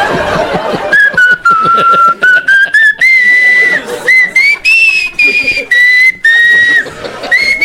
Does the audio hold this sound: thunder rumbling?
no